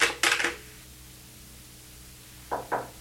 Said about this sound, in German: Es klopft.